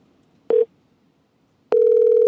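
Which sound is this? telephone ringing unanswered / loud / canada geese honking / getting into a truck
telephone ringing unanswered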